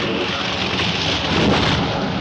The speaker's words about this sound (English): Looking out a window, William sees lightning hitting one of the massive trees nearby. It fells another large tree.